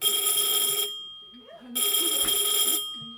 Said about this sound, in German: Ein schrilles Läuten ertönt. Darauf folgt aufgeregtes Rascheln und Räumen. Denn wenn die Klingel im Lager des Oxfam-Shops ertönt, kommen neue Spenden an.